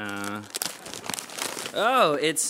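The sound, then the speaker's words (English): About a second of papery crinkling and tearing as a chosen gift's wrap is ripped open, revealing a box of coconut-flavored LaCroix water; a rapid cluster of rustles. A sustained voice comes just before, and a rising-and-falling vocal exclamation follows. “choose a gift and open it up.”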